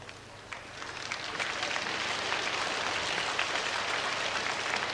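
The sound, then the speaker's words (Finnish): A festival crowd claps for itself, building over the first second into a dense, continuous crackle of many hands, with no voices over it. “No on se hyvä, että teillä on niin paljon itsetuntoa, että itsellennekin uskallatte taputtaa.”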